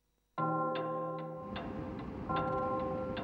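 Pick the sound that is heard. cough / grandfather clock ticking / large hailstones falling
grandfather clock ticking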